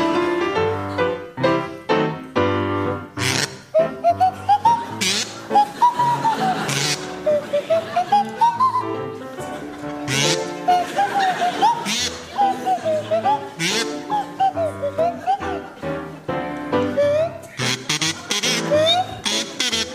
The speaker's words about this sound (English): to feature Ross Noble on the kazoo and Tim Brooke Taylor on the Swanee whistle.